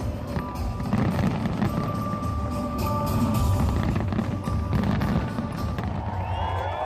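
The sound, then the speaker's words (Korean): A large Bastille Day fireworks display at night in France crackles and pops in a dense, continuous barrage, with thin whistling streaks rising near the end, all at a steady, fairly loud level and no clear pauses. “밤이 되면 엄청난 규모의 불꽃놀이가 펼쳐져서 밤하늘을 수놓습니다.”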